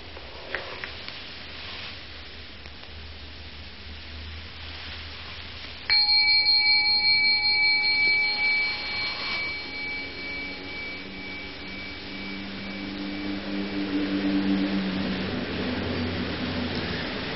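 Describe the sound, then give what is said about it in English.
A single bell is struck after a stretch of steady low rumble, ringing out with bright, shimmering overtones that slowly fade, leaving a lower hum lingering beneath the constant background noise. “You see, the bell came out of nothing, floated off, off, off, off, and then stopped being a sonic echo and became a memory, which is another kind of echo, a wake.”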